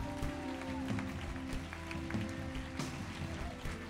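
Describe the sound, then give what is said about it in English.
A large audience claps and cheers continuously to cheer on people as they walk to a response lounge. A dense, steady wash of applause with scattered whoops, layered over sustained music playing throughout. “Come on, let's cheer them on as they go.”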